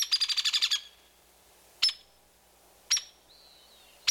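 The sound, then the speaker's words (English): A young hairy woodpecker's begging calls as it hitches along behind its parent on a mossy branch: a quick burst of about eight sharp, high chips, then single loud chips spaced about a second apart, with a faint thin whistle between the last two. “A young hairy woodpecker, hitching along behind its parent on a mossy branch.”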